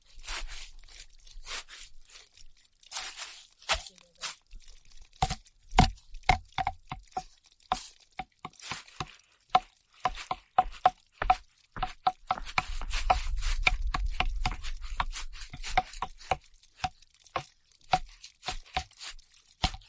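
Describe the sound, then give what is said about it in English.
Hollow wooden knocks ring out in an irregular, quickening rhythm, like sticks of wood struck as a percussion instrument, with a brief low rumble midway and no talking. “That wood makes a really nice instrument.”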